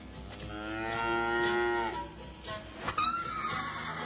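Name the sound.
cow mooing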